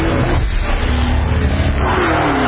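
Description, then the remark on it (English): A supercharged V8 engine in a Dodge sedan roars loudly, a deep, sustained growl that holds steady for a couple of seconds with no pauses and no voices. “If you think putting a supercharged V8 in a sedan is crazy or just plain wrong, well, we've got news for you.”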